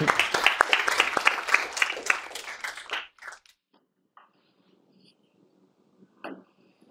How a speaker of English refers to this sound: So, okay, yeah, sure, we can applaud.